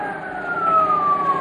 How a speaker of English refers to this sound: sounds like a police siren, doesn't it?